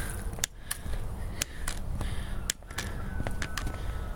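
Crunchy footsteps stomp through deep snow in huge drifts, about ten uneven crunches spread over a few seconds against a low outdoor rumble, with no one speaking.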